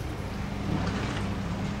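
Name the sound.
boat moving on water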